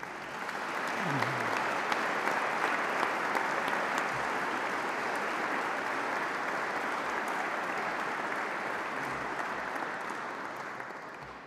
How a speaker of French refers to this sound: Je demande aux lauréats de bien vouloir se lever et je vous demande de les applaudir.